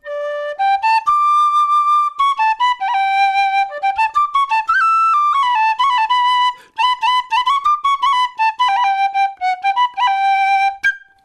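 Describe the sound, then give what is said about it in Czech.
A loud tin whistle plays a lively folk melody alone, with quick ornamented runs, trills and a few held notes in a shepherd-like pastoral style, continuous for about eleven seconds. “Jo, ta pastýřská dřevěná píšťalka, prostě něco hodně podobného, akorát je prostě dřevěná, tak ta má takový měkčí zvuk, tu tady nemám, ale styl hraní je jiný, že třeba...”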